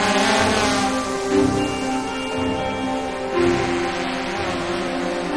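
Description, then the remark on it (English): A drone, flown into the distance high in the air, gives a steady, buzzing motor whine that holds a constant pitch throughout, with a broad rushing hiss underneath and no voices. “He flies it into the distance, high in the air.”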